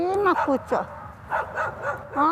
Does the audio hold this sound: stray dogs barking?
yes